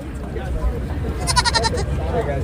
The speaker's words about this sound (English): But the biggest attraction? The petting zoo. As families crowded around goats, sheep, and alpacas, it's one of many traditions that keeps some visitors coming back.